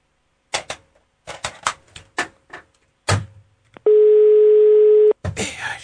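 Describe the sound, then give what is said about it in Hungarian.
A series of sharp clicks like buttons being pressed as a person places a phone call, then a loud, steady telephone dial tone holds for about a second before cutting off into a burst of noise. “Engem nézést, telefonálok.”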